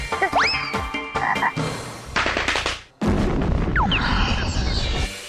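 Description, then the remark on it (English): Loud, dense frog croaking with rapid rasping pulses and rising chirpy calls. A brief pause comes midway, then the chorus carries on, with no talking. “Well, we better take him back where we found him and release him. Yeah, he's had a tough day. Bye, frog.”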